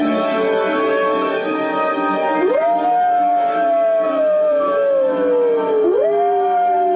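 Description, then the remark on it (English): Long, drawn-out howls rise and slowly fall in pitch, one after another, loud and continuous with layered tones beneath, with no talking throughout. “There's a lot of howling.”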